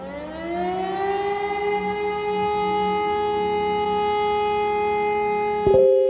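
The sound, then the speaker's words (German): An air raid siren wails steadily on its own, its tone rising at the start and then holding a long sustained pitch with strong harmonics, loud and continuous throughout. “Потому что воздушная сирена, уроков нету.”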